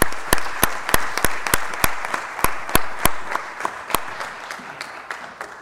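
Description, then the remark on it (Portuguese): An audience applauds steadily for a music group, a dense wash of many hands with a few sharp, prominent claps ringing out, tapering off slightly toward the end. “Quero pedir mais uma vez uma salva de palmas para esse grupo.”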